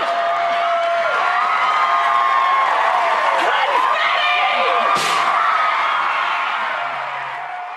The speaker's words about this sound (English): Here, Rosie O'Donnell is absolutely overjoyed as she hypes up the studio audience into cheering for the divorce.